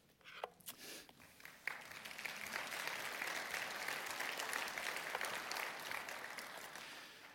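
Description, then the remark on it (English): An audience claps steadily for several seconds, welcoming the speaker's wife as she joins him on stage. The sound builds quickly after a few scattered early claps and holds a dense, even roar of hands before easing slightly at the end. “Being married to me, she deserves a bigger applause than that, but we'll save it for another time.”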